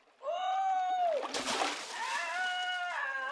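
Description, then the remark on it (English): A sudden splash as Bomber falls into the water from a boat, cutting in between long, wavering vocal cries that rise before the plunge and resume just after it. “Bomber's fallen in. He'll drown.”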